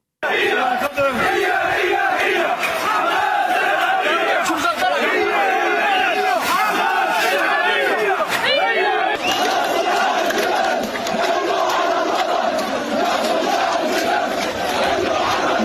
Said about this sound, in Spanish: Son gritos contra Hamás, contra su terror y su corrupción.